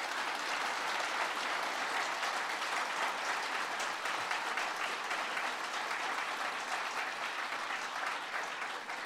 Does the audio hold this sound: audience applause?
yes